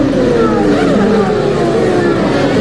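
Several loud racing engines rev and whine continuously at the Autodromo Enzo e Dino Ferrari in Imola on 1 May 1994, as the San Marino Grand Prix is about to start. Their pitches rise and slide over one another amid a dense, roaring crowd-like backdrop, with no pause throughout.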